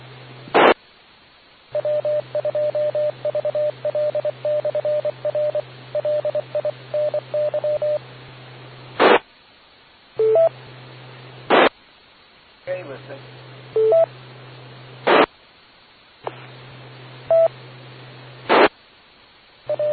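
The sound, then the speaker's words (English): A quick run of about a dozen short, evenly spaced touch-tone beeps dials a phone to make a quick phone call over a crackly, narrowband radio channel, followed by several bursts of static and squelch noise. “Okay, let me give you a quick phone call then.”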